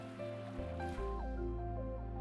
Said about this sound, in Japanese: あなたの耳には泡の音と私の声だけが響き渡る。